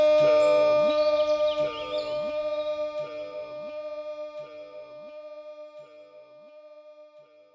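A loud, bright elephant-like trumpet call, voiced in imitation, up in the mountains, followed by about five echoes that repeat at a steady rhythm and fade steadily until they almost vanish.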